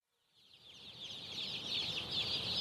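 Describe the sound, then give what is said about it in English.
A dense chorus of many chickens, selectively bred to grow as big as possible as quickly as possible, clucking and chirping together in a shed carpeted with birds; a continuous overlapping din that swells in from quiet and stays loud. “These are chickens that have been selectively bred to grow as big as possible, as quick as possible, using as little feed as possible.”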